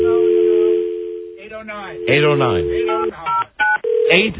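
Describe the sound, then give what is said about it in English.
A steady telephone dial tone hums, then a voice talks over the line, followed by a quick run of three or four short, evenly spaced keypad dialing beeps at varying pitches, placing a call up to an ice cream social. “Can we call up to the ice cream social and find out what's going on up there?”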